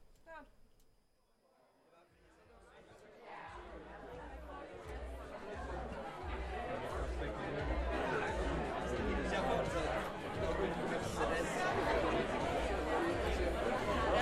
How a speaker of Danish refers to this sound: Mens publikum forsyner sig i baren og forventningsfuldt snakker sammen i salen